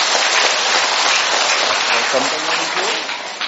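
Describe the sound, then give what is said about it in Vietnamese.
An audience breaks into steady applause for two Quan họ Bắc Ninh singers, dense overlapping clapping at a loud, even level for several seconds, with faint voices murmuring underneath near the end. “Xin cảm ơn hai bạn quan họ Bắc Ninh, một tràng pháo tay thưa anh chị em.”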